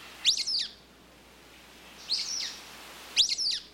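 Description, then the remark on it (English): Three bursts of squeaky, high-pitched calls from a sulphur-bellied flycatcher in a canyon, each a quick tangle of shrill notes, spaced irregularly over a quiet background with no talking. “Listen for the squeaky calls of the sulfur-bellied flycatchers.”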